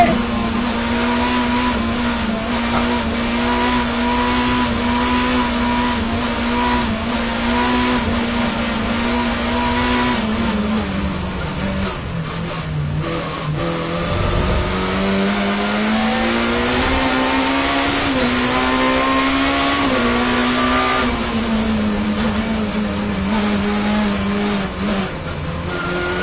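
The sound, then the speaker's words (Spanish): A video game car engine drones steadily and loudly, its pitch rising and dipping as it revs through gear changes, with tire squeal mixed in throughout; no voices. “Por cierto, si estás conduciendo este coche, no es de tu coche.”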